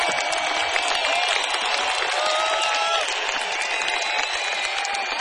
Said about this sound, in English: I want big clap for everybody of these guys who have this American tour